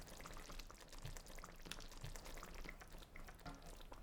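Thick tomato sauce bubbling on the stove, with a steady low simmer broken by soft irregular pops and blips as bubbles burst, moderately quiet, no voices.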